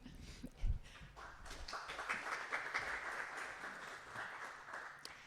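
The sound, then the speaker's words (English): An audience breaks into applause after a brief thump, a steady wash of many hands clapping that swells and then holds for several seconds, welcoming a speaker to a talk. “Give her an applause.”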